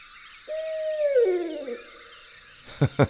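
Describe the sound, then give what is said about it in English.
At a campground at dawn, a barred owl lets out one long, drawn-out hoot that slides down in pitch, over a steady chorus of chirping songbirds, then two short, sharp thumps close it out. “Okay, barred owl, hoot all you want.”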